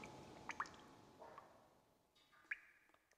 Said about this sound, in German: Einige Ausstellungsstücke lagern unter Abdeckplanen. Weil es doch hin und wieder von der Decke tropft bei Regen.